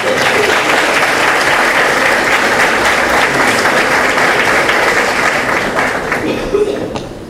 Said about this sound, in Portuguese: Eu convido então o atual prefeito, senhor Márcio Cardim, para receber a placa de homenagem das mãos da primeira-dama, a senhora Marisa Cardim. Uma salva de palmas.